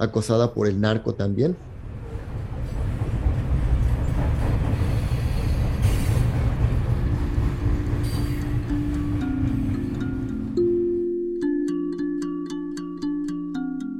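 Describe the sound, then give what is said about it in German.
A heavy freight train carrying about 600 people rumbles steadily and loudly at night through the Tierra Blanca region of Veracruz state, Mexico. Its roar is dense and continuous, after a brief voice at the start and before sustained tones take over near the end. “Wir waren etwa 600 Personen auf dem Zug, die an diesem Abend durch die Region Tierra Blanca im Bundesstaat Veracruz fuhren.”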